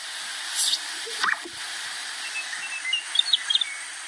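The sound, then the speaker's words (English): A greater sage grouse display call: a quick swooping, bubbly plunk over a steady airy hiss, followed by a few faint, high chirps from other birds. “I'm sure most people knew it was a bird, but this is a specific one, the greater sage grouse.”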